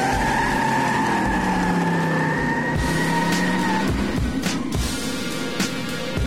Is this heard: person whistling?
no